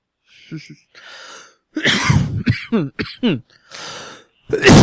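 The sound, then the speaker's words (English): A loud fit of harsh coughing: several strained, raspy bursts in quick succession with breathy gasps between them, after a quieter stretch of heavy breathing. “You think I'll ever stop coughing up, man?”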